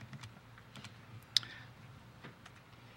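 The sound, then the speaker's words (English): Typing on the keyboard of an Enigma cipher machine: a handful of quiet, irregular mechanical key clicks with one sharper, louder strike near the middle, over a low hum. “And directly beneath that, you have the keyboard where you would actually type in the text.”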